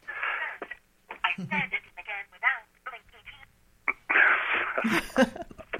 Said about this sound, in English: My phone went off somehow, thinking I was talking to him. Was that Siri or somebody else? Yeah, no, it's Siri. Stop, Siri.